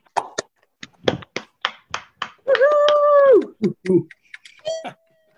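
Scattered, uneven applause from a few people over a video call, sharp thin claps spread out rather than blended, with one sustained cheering voice rising through the middle.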